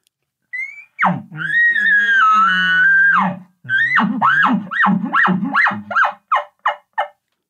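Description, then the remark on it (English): An imitated aggressive elk bugle aimed at a bull elk: a rising squeal swells into a long, loud, high whistling note, then breaks into a chuckling sequence of about eight quick, grunting chuckles that fade in strength. “My first aggressive bugle is going to be as he's clearly moving in the direction I want. I'll start the chuckling sequence.”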